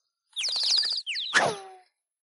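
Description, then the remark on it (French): A quick flurry of high, bright bird chirps and trills, loud, followed by a few sliding twitters and a brief rush of noise before silence. No one speaks. “Est-ce que tu vas nous emmener observer les oiseaux, Wawa?”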